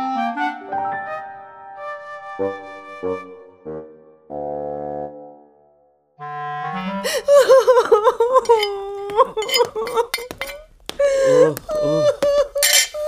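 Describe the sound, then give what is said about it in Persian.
Someone sobs and wails in drawn-out, wavering cries, fairly loud, with dishes clinking in between, crying over a pile of unwashed dishes and uneaten food left over after a dinner party. A few seconds of tonal musical notes come first. “داری برای این همه ظرف نشستی گریه میکنی؟”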